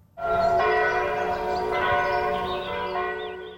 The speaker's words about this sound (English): It is a sound as old as time. Many of us associated with festivities like Christmas or with the Christian faith more generally. And if you ever find yourself in Europe, chances are you won't be too far away from the chiming of church bells.